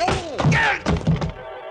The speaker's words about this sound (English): The front of his gun snapped against the side of my head, and I went down to my knees.